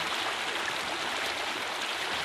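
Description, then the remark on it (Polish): A steady, even murmur of river water flowing along a bank where the banks bend slightly, a soft continuous rushing with no breaks, moderately quiet, with no voices. “A wracając z powrotem nad brzeg rzeki, to tam, gdzie brzegi się lekko załamują, mamy jednolity, również kojący szum.”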